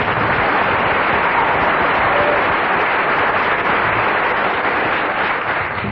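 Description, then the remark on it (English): A large audience claps steadily for a member of a performing quartet, a dense, loud wash of applause sustained for several seconds without pause and with no voices rising above it. “I must invite you to give a huge round of applause to the only member of the quartet who didn't get a single laugh throughout.”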